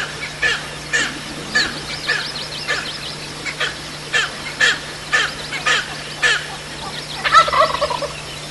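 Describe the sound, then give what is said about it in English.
Rio Grande wild turkeys, a population originally from Oklahoma in the 1950s, gobble in the dark in repeated bursts of rapid, rattling calls, several birds overlapping, with a steady low hum underneath and no talking. “Rio Grande originally came from Oklahoma in the 50s. And they're gobbling in the dark.”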